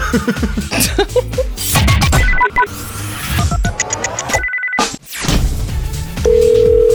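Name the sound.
telephone ringing tone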